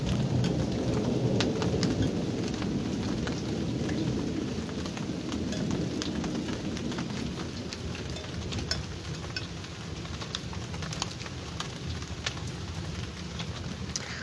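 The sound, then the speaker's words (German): Steady rain pours down with a dense, hissing wash, while low rumbles of thunder roll underneath, heaviest early on and easing slightly; sharp drips and patters stand out, with no voices. “Ich muss euch noch mal einfach den Regen hören lassen.”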